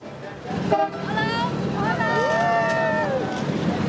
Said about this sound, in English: Of course, those famous old cars from the 50s still on the streets. Here's visitors in the back of an old convertible going through historic Havana.